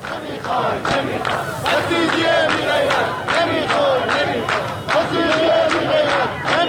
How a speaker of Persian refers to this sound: در تبریز در جریان بازی فوتبال تیم‌های استقلال و تراکتورسازی مردم شعارهایی چون آذربایجان ذلت نمی‌پذیرد سر دادند.